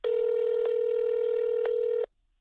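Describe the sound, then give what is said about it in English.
A steady, buzzy telephone tone from calling the out-of-service number listed for a chicken restaurant holds for about two seconds, broken by two faint clicks, then cuts off abruptly. No one speaks. “But the phone number listed for the business was out of service.”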